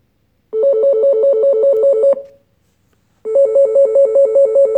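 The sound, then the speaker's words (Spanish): A telephone rings loudly in two rapid trilling bursts, each lasting about a second and a half, separated by a short pause. No one speaks. “¡Pablo! ¡El teléfono!”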